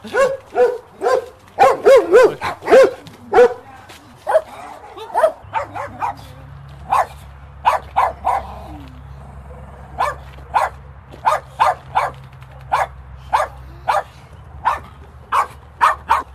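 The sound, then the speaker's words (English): Several dogs bark repeatedly at a dog sanctuary between the M50 and the airport, a dense cluster of overlapping barks at first, then steadier single barks at regular intervals over a low rumbling hum in the background. “Today, we will visit and talk to the volunteers of Dog Save, Dog Sanctuary.”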